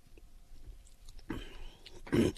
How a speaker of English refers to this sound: Excuse me. I'm going to take a sip here.